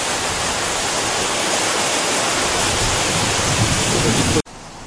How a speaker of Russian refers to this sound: Вот этот вот водопад впадает в водоем. А я стою вот на этом мосточке. Но на самом деле из-под мосточка тоже водопад. Вот мы сейчас попробуем его снять. Я сейчас перехожу на другую сторону. Вот он, подо мной.